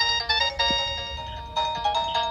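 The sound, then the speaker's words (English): An electronic doorbell chime, from a doorbell that can play other tunes, plays a bright, tonal melody of several ringing notes in quick succession, with a brief pause before a second phrase. No one speaks over it. “We've got the same doorbell”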